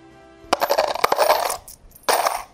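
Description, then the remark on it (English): Coins clatter out of a casino slot machine in a bright metallic cascade, a brief jingling pause, then a second rush of coins spilling into the tray, loud. “That was a casino, the cash machine.”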